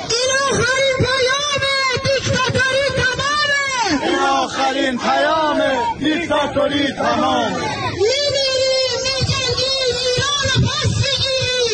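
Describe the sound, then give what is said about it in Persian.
A large crowd in Rome, Italy chants the protest slogan 'Woman, Life, Freedom' in loud, rhythmic unison, voices rising and falling together in repeated phrases, with a brief stretch of overlapping shouts and cheering midway before the chant resumes. “روم پایتخت ایتالیا و فریاد زن زندگی آزادی.”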